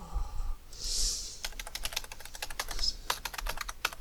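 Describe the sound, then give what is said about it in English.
Rapid, furious typing on a computer keyboard as someone mashes the keys hard while entering a new password, a dense burst of clicking keystrokes, with a brief pause near the start before the clatter resumes steadily. No one speaks. “If you listen really carefully to me furiously mashing my keyboard, you can suss out what my password is.”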